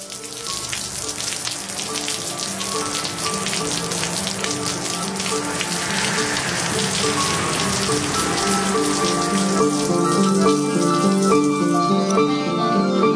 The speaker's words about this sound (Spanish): Nadie la ha puesto en marcha y nadie la va a parar. Hablará mientras quiera esta lluvia, y mientras hable, voy a escuchar.